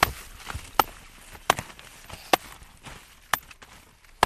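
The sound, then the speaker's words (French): Crisp, crunchy snaps of mature Brussels sprouts being broken off the stalk in a terraced field, four or five sharp cracks at uneven intervals over a soft rustling of leaves, with no talking. “Tu entends comme c'est croquant ?”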